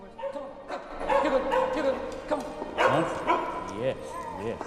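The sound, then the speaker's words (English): Two dogs bark and yip excitedly in quick, repeated bursts, fairly loud, playing with a boy on a set of stairs in a large domed entrance hall, with high-pitched yelps tumbling over one another throughout. “…'s playing on a set of stairs with two dogs.”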